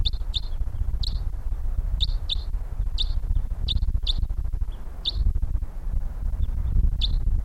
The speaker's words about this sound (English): Okay, we got birds coming in here.